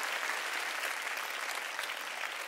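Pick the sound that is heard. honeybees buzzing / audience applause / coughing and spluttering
audience applause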